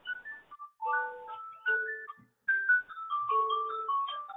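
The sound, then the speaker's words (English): A mobile phone ringtone plays a bright electronic melody of sustained tones in short phrases, separated by brief pauses, moderately loud with no voices. “please mute your phones.”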